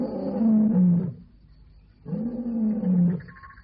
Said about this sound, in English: What's he saying? He must be saying something. There's a Swahili legend that when the lion roars, he's saying, Chianani, Yangu, Yangu, Yangu. Whose is this land? Mine, mine, mine.